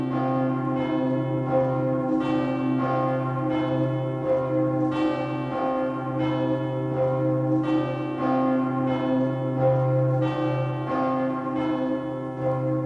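Church bells peal continuously for Easter, overlapping strikes in a steady rhythm with sustained ringing tones beneath, loud with no voices.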